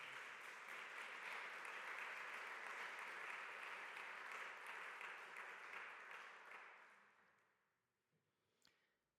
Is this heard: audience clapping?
yes